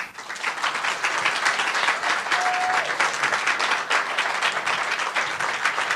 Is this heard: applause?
yes